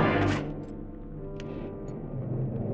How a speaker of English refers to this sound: I'd handled two things in that room. Greta and the highball glass. I smashed it to the floor and ground it with my heel.